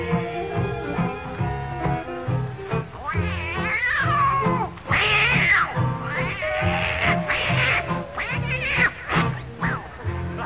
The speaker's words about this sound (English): that old tomcat started a fight. And this is the way it all did sound to me.